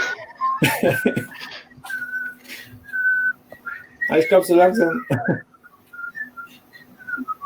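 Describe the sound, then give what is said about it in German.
A whistled melody played backwards: thin, wavering high notes in short phrases, with a few brief bursts of people talking in between and over the whistling. “Pfeifer rückwärts.”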